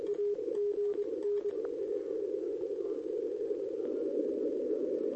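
A faint, rapid Morse-like tone from a weak radio signal keys on and off briefly, then gets swamped by a steady wash of radio static, interference and hiss that continues to the end.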